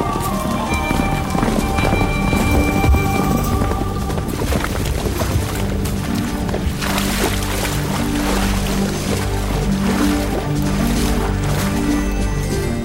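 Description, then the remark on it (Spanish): Several riders' magnificent horses clip-clop in a steady, fast rhythm, loud, over a dense, continuous rumbling background throughout, as the mounted party rides in a procession. “Los condes de Borges y de Alcudiel montaron en sus magníficos caballos y todos juntos siguieron a sus hijos Beatriz y Alonso, que encabezaban la comitiva a bastante distancia.”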